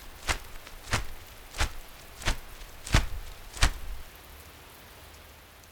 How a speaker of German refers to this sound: Es ist kalt, es regnet und Frau Müller schüttelt ihren nassen Regenschirm.